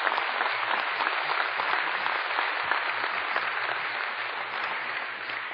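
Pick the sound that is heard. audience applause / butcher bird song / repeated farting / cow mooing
audience applause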